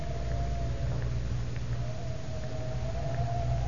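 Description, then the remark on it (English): Wind howls steadily at the Tower of London on a cold, windy afternoon around 4 o'clock, a thin whistling tone that wavers slowly in pitch over a constant low rumble, with no voices, sustained at an even level throughout. “It is 4 o'clock of a windy afternoon, shortly before closing time.”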